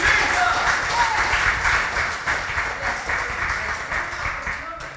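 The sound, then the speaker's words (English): A crowd claps steadily, a dense, sustained wash of many hands that stays loud throughout before easing slightly near the end, with a faint murmur of voices underneath. “Come on and clap your hands right now.”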